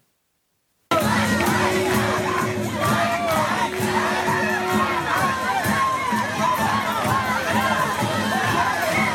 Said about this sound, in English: Nope. It's just a bunch of chanting.